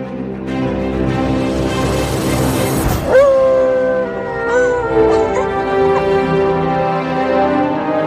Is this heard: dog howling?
yes